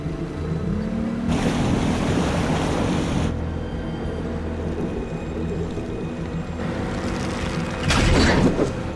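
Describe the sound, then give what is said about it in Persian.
A boat engine drones steadily, its low hum continuous throughout, as it is used to pull something up, while loud washes of ocean water surge in twice, briefly swelling over the motor. “خاموشش کن، موتور خاموش کن.”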